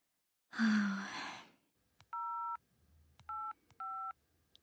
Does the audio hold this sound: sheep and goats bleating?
no